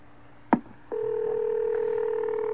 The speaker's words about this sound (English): His phone is ringing.